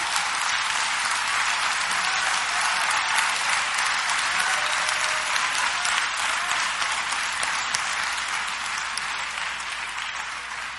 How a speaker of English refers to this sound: Y'all better clap. I feel by myself now. See?